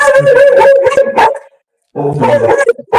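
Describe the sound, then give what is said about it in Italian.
A dog howls and barks on a landing with strained, tonal cries, a loud burst for about a second and a half, then a brief pause before another howling bark starts. “C'è stato un urlo improvviso nel pianerottolo. A un certo punto il Il pianerottolo. cane”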